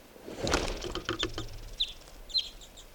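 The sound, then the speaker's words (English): A burst of fluttering wingbeats as a released bird, numbered 511, flies off, followed by a few short, high chirping calls as it moves away, with no voices. “Releasing now, bird 511.”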